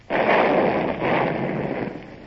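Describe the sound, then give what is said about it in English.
A ship's cannon, trained on a road, fires with a sudden loud boom that rolls into a rumbling roar, followed by a second swelling blast about a second later, with no voices. “Fire as you will, Mr.”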